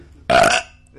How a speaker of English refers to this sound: Oh, I've got another burp.